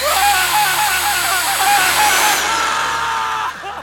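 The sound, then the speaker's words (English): A power drill whirs loudly in one continuous burst of nearly four seconds, its high-pitched whine wavering slightly before cutting off at the end, as it is set to drill into the nerve bundle in a man's right shoulder. “Orale, drill into the nerve bundle in his right shoulder.”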